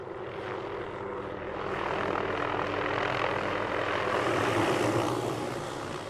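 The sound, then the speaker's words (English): A small blue and yellow helicopter, about to take off to capture mule deer in the Piance Basin, buzzes and drones steadily at idle, loud, holding a continuous whirring hum for several seconds with no one talking. “That buzz you hear in the background is a small blue and yellow helicopter that's about ready to take off.”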